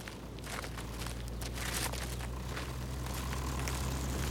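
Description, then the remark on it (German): The heavy engines of many tractors at a tractor pulling event drone steadily, a deep, continuous rumble with faint crackling and scuffing noises on top, and no one speaking. “Auf jeden Fall sind die Motoren ganz schön laut. Ja, das klingt wie ein großer Laster oder... Ein Traktor, da vorne sind ganz viele.”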